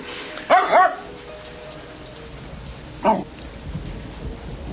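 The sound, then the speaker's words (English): A Jack Russell terrier named Bear barks: a quick pair of sharp yaps, a pause of a couple of seconds, then one more bark over a low steady background hum. “Jack Russell's smartest dog's alive.”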